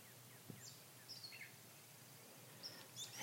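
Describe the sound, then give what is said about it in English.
Faint birdsong outdoors on a cool May morning in Northeast Massachusetts, heard while stopped during a walk: scattered short chirps and tweets come and go over a steady low background hush, with no one speaking. “Let me stop walking. You can hear the birds.”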